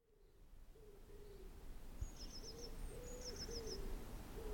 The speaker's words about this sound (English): And if you think you can hear the sound of a distant wood pigeon, then you're probably about smack on with that, if I'm being honest.